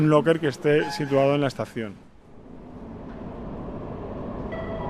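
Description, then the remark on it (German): A subway train stopping at a metro station platform as passengers get on and off: a loud, tonal squeal for about two seconds, then a steady low rumble and hiss of the train and platform that carries on to the end. “Ein Zug hält an, Fahrgäste steigen ein und aus.”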